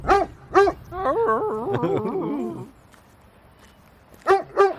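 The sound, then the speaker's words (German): A dog barks twice, then lets out a long, wavering whine or yowl, goes quiet briefly, and finishes with two more sharp barks, all loud. “Den Hund sieht man auch.”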